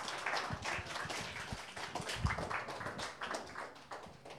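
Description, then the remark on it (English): An audience applauds the musicians and the event organizers at a show: many hands clapping at once in a dense, crackling patter that holds steady throughout, fairly soft in level, with no voices on top. “First of all, let's give a round of applause to all the musicians and two for the show for putting this event together.”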